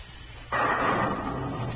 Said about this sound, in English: What's that? Thunder, Clovis. You'll be hearing a different kind when Mr. Dillon gets back here.